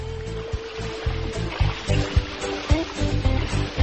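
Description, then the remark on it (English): A kayak glides across calm flat water, with steady rhythmic paddle splashes and a continuous watery wash. The strokes come in quick, regular pulses with no voices. “Flat water. 皮划艇进水。”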